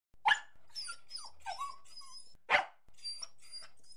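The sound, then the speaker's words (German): A small dog barks twice, sharp, with soft whimpering and yipping in between and faint high chirping in the background. “So zeigte der kleine Hund den Kindern den Weg nach Hause.”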